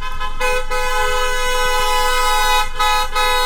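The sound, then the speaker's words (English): Several car horns blare together in a loud, sustained chorus of honking, holding nearly continuously with a couple of brief dips, as vehicles pass by in a car parade held by colleagues to surprise a teacher retiring after a 40-year career during COVID, in Houston. “Until some of her colleagues surprised her with a car parade, a very COVID way to end a 40-year career.”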